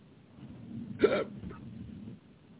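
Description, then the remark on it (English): A single sharp hiccup jumps out of a quiet background, followed by a faint trailing breath. “And I've got the hiccups.”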